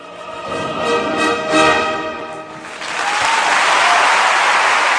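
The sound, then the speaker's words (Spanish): A burst of dense clapping from a crowd swells in after a couple of seconds of tonal, voice-like sound, then continues steadily and fairly loud to the end. “Un aplauso por el otro.”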